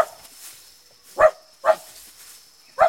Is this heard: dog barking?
yes